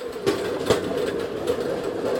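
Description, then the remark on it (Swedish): Rattling wheels of a rail draisine carrying riders along the old Simrishamn railway line between Björnstorp and Veberöd, through the valley at Rommelåsen, clatter steadily along the track, with sharp clacks at irregular intervals over a continuous rolling rumble, heard from on board. “Det som hörs här är slamret från vagnshjul på dressinen vi sitter på just nu.”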